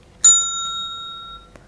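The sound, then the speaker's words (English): A single bright bell chime, the page-turn signal in a read-along of the book Birthday Bear, rings out clearly, its clean metallic tone ringing on and slowly fading over about a second, followed by a faint soft click. “When you hear the bell, turn the page.”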